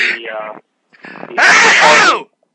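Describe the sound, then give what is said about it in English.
A brief vocal sound, then a drawn-in breath leading to one loud, exaggerated sneeze into a head-mounted microphone, covered by a hand: a harsh, blaring burst lasting nearly a second. “can you fucking not dramatically sneeze when someone's trying to bring up points?”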